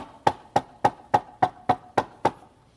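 Eight sharp, evenly spaced knocks on a door, a steady quick rhythm with a hollow, mid-pitched resonance, each rap ringing briefly before the next. No voices.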